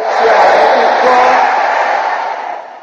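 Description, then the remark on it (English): An audience shouts amen together in response to a preacher's call, a loud, dense roar of many voices that holds steady for a couple of seconds before tapering off. “Is there anybody here who wants to live an extraordinary life? Let me hear you shouting amen.”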